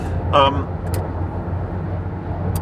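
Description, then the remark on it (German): Steady low road rumble from inside a moving car as it passes a truck, with a short voiced sound near the start and a couple of faint clicks. “Wunderbar, ich kann den LKW überholen, super.”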